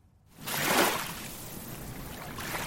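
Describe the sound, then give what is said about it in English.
Sea water washes against the shore of a lead grey sea dotted with fishing boats and fishing nets on a misty morning on the island of Chiloé in the Los Lagos region of Chile, a steady hiss swelling quickly after a near-silent start, then holding at a moderate, even level, with no voices. “It's a misty morning and I'm standing by a lead grey sea dotted with fishing boats and fishing nets.”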